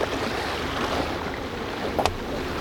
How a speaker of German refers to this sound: Die beiden versperren mit unserem Boot den Ausgang der Bucht. Motor drosseln!